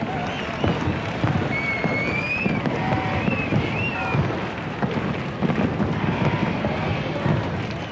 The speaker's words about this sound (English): And as Pope Benedict left, fireworks exploded overhead.